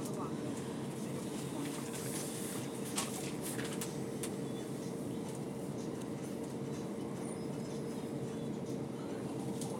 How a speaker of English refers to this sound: I'm actually on a train.